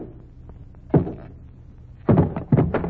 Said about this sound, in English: I'm perfectly capable of knocking the lid off a packing case without help from a janitor.